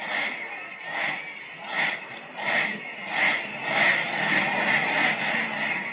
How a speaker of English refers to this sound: The Southwest band is forming a huge victory end down at the other end of the field. And just listen to that cheer.